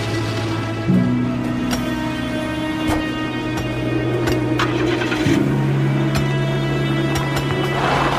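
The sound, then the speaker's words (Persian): A car engine hums steadily as a car drives up to a woman, who gets in. Its tone shifts in steps as it idles and moves, with faint outdoor background noise and occasional clicks. “شاهین با ماشین میاد جلوش و افسانه سوار میشه.”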